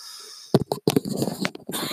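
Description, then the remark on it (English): A few short, harsh coughs in quick succession, fairly loud, followed by some rough throat-clearing noise and breathing. “Had a cough a little there.”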